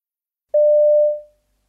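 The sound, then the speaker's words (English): A single steady electronic telephone tone, one clear mid-pitched beep lasting under a second before fading away, heard alone with no voices, as a boy phones a friend. “You overhear a boy phoning a friend.”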